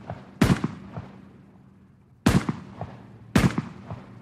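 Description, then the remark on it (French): Three sharp, loud rifle shots fired by gendarmes ring out alone at uneven intervals, each a hard crack followed by a short echoing tail, with a longer pause after the first. “Et il fait tirer 4 coups de fusil par les gendarmes.”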